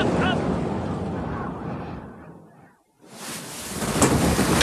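A thunderstorm with deep rolling thunder and a steady wash of rain. The roar fades almost to nothing for a moment, then returns as loud, bright hissing rain.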